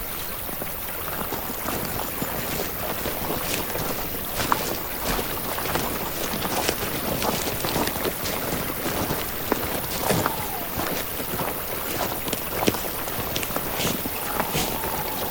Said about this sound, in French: Le ruisseau, mais c'est un ruisseau qui est bien gonflé, c'est là. Il est devenu gros, là. Il a beaucoup plu, donc forcément, il y a beaucoup d'eau, ouais.